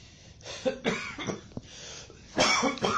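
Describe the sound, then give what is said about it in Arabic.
A person clears their throat several times in close succession to expel remaining urine after urinating (istibra), with rough, raspy bursts and a louder pair near the end, and no talking. “يستبرئ منه بنحو تنحنح، تمام؟”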